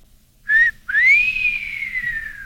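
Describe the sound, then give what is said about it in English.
A person whistles two clear notes: a brief one, then after a short gap a long tone that slides up and slowly drifts down. Loud, with no talking. “Carmen leaves the factory and we hear another whistle.”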